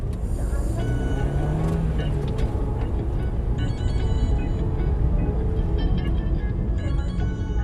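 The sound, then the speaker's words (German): Steady, loud engine and road rumble from inside a moving Dacia Logan taxi driving from Bistritz toward the Borgo Pass and a Carpathian village, with faint rattles and high whines drifting over the low drone. No one speaks. “Ich sitze im Wagen von Taxifahrer Dan.”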